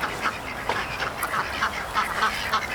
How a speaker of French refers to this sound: Donc ici, comme vous pouvez le voir, il y a des petits canards. Ces canards, c'est des canards coureurs, ils ne savent pas voler. Ils sont en H24 en liberté.